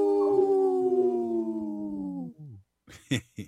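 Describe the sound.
A single long wolf howl holds a steady, slightly falling tone for over two seconds, then tails off into a brief lower note, followed by a few short, rough bursts of sound.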